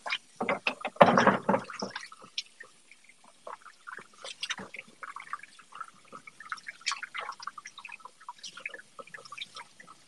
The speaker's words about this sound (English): Fridge power washing ASMR. What? They're saying fridge power washing ASMR. Oh yeah. This is a little loud for ASMR. Yeah, that's way too loud for ASMR.